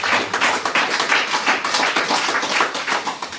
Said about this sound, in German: Ja, natürlich, gerne Applaus.